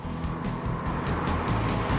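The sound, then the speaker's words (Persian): The 325-horsepower 3.4-litre six-cylinder engine of a Cayman S sports car, shared with the Boxster, drones steadily through its twin central exhaust for about two seconds, a deep, throaty hum with rumbling low harmonics and a slight rise in pitch near the end, with no talking over it. “این صدا مثل قبل از موتور 6 سیلندر 3.4 لیتری باکستر به گوش میرسه.”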